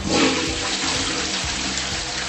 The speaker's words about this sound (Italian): E odio tirare lo sciacquone.